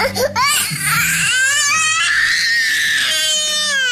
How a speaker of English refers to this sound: Well, these tantrums are getting more and more lately, and Mommy and Daddy don't like it. It's not cute to cry.